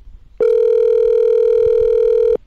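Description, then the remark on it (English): A telephone ringback tone as a call is placed for an interview: one steady electronic burst lasting about two seconds, loud and clear with nothing else around it. “This was easily one of the most inspiring phone calls I've ever made.”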